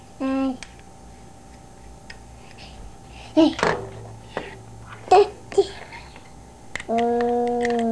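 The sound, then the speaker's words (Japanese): A clock ticks faintly and steadily, while a small child babbles and a few louder clicks and short tonal sounds come and go. “ここにも時計あったでしょ？”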